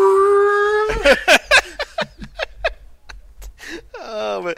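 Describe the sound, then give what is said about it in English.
Several voices imitate a TIE fighter engine screech, starting with a sustained tonal wail, then a burst of sharp, rhythmic vocal shrieks and a final rising-and-falling whine. “Like, we've all got our own TIE fighter thing going on.”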